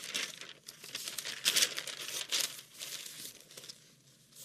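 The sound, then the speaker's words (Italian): Continuous rustling and crinkling of paper as pages are flipped through in search of page 23, with several brighter swishes standing out among the steady shuffling. No one speaks. “Riusciamo a trovare la pagina.”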